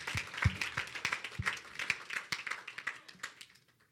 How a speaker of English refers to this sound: Clap for the Lord Jesus.